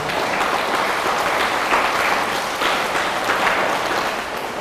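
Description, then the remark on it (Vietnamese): An audience of students at a teacher's talk claps steadily and loudly, a dense wash of many hands applauding continuously with no pauses, filling the whole stretch. “Và sau mỗi một cái điều nên tránh mà thầy trình bày đó, các con hãy dành một tràng vỗ tay thật lớn rồi hít thở thật là sâu.”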